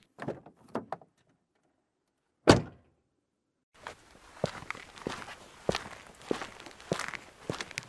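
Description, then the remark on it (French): A few footsteps, then one loud clunk as a man opens the speaker's car door by a road where a car is stopped on the emergency lane, followed by steady scuffing and rustling movement. No one speaks. “Il ouvre ma portière et me dit que la voiture va à Saint-Domingue.”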